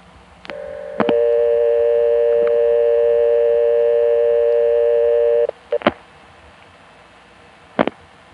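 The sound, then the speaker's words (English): A telephone line to a phone in King George, Virginia, carries a loud, steady multi-tone hum for several seconds, broken by sharp clicks, then falls quiet apart from a couple more line clicks. No one speaks. “Our next stop is King George, Virginia, where we found one phone that we could record from, at least a little bit.”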